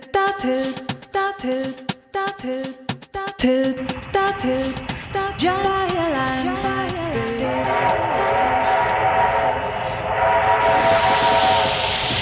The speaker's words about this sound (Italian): Questo suono, ormai gli ascoltatori sanno che a un certo punto spunta un treno, abbiamo addirittura scomodato un treno di fine 800 a vapore.